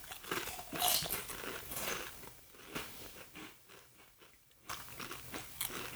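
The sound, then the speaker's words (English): Crunching of a crisp snack being bitten and chewed, with a run of sharp, irregular crackly crunches and a brief pause before chewing resumes. No one speaks. “The crunch is all right.”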